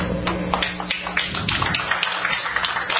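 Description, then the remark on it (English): A small group of the IM team applauds after confirmation that their equipment is on the surface of the moon, a dense, steady patter of hands clapping with no pauses, slightly muffled and thin in the high end, and nobody speaking over it. “Yeah, I mean, again, that sounds a little bit like the applause at CPAC, but the point is it didn't take that large a group.”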